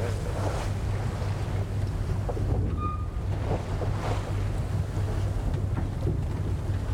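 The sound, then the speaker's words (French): A large ship passing behind the listeners' boat: its deep, steady engine drone rumbles behind constant wind and rushing water, with a brief faint high tone near the middle and no voices. “Il passe bien derrière nous alors. Ouais, il passe derrière.”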